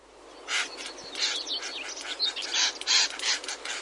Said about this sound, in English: Well, what they do is they make very loud calls and they snap their beaks with a loud clicking sound. In fact, we have a recording of it here.